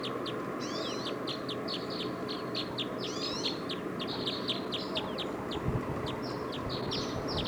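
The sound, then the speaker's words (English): Decoy birds call over and over while a flock is being captured, in quick, repeated chirps and short whistled notes, with a few rising trills mixed in, above a steady low rumble of background noise and no speech. “Decoys now are calling a lot.”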